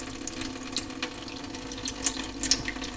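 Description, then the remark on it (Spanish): Water flows steadily in a continuous rushing wash, with small splashes and bubbling bursts rising now and then. No one speaks. “¿Y esta agua tan fresca y transparente?”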